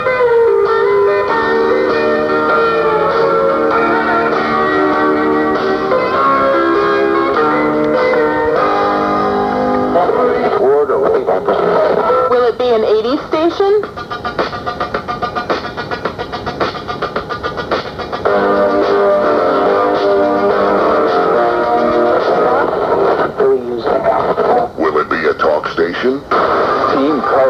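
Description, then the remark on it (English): A radio dial is swept across stations, jumping between snippets of music and garbled voices, with a warbling, whistling sweep of static midway through. The sound stays steady and fairly loud throughout. “Will it be a rock station? A country station?”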